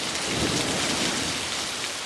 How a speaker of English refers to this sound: It rains so hard in Nairobi these days that all you can hear is the rain.